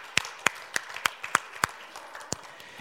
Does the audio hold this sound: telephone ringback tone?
no